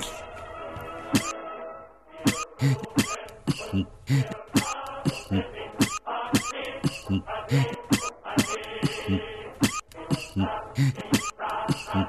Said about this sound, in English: Very sorry, not the time to cough, really.